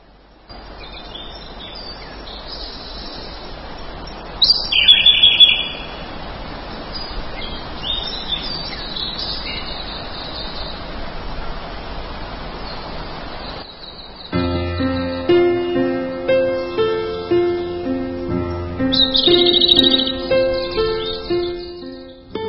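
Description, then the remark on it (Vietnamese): Birds sing in open fields, chirping in brief bright bursts over a steady, hissy outdoor ambience, with a second flurry of calls later as a soft melodic, tonal background comes in. “Những cánh đồng ấy không mang cái từ green trong tên, nhưng lại có màu xanh cho đôi mắt ngắm và tiếng chim hót cho đôi tai nghe.”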